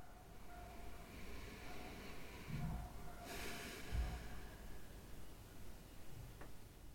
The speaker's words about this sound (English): Slowly allow your breathing to come back to a normal rhythm.